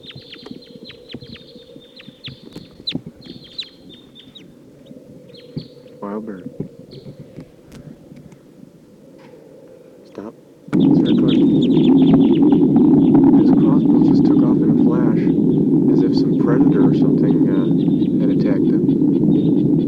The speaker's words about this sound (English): That's the wild bird who started calling loud immediately after the playback stopped. Wild bird. Sounds like maybe more wild birds are coming. They are taking off. Wild bird taking off to the south. Circling around. Wild bird.